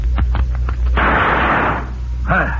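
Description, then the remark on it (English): Three quick revolver gunshots crack in rapid succession, fired at three tossed chips, followed by a longer rushing burst of noise, with a brief voice cutting in at the very end. “That was nice shooting, Cisco.”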